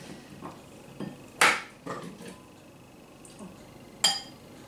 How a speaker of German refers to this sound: Nachdem jetzt alles klein geschnitten ist, geben wir alles zusammen in den Mixer. Ich werde das jetzt, weil der Mixer relativ klein ist und kein großes Fassungsvermögen hat, immer die Hälfte nur nehmen.